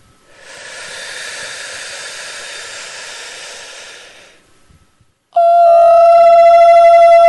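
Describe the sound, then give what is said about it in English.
In a guided chakra breathing exercise, a long, steady, airy hiss of breath sipped in as if through a straw lasts about four seconds, followed by a short pause and then a loud, sustained high sung O tone. “once up into the seventh chakra, we'll sip as if through a straw and out on a high O sound.”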